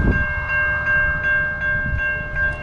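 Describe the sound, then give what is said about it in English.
A train's horn blares in a steady, sustained tone over the deep rumbling of a train approaching on the railroad tracks, loud, with no one speaking. “And I hear a train coming.”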